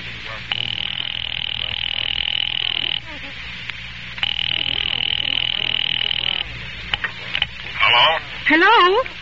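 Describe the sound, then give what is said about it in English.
A telephone line to an office rings twice through the earpiece, each long buzzing ring lasting about two seconds with a short gap between, followed by brief warbling tones at the end. “Ringing Murray Hill 70093.”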